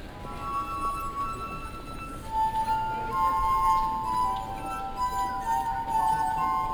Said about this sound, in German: Siehst du, dann reibt sie so leicht über den Rand der Gläser und sie spielt. Sensationell.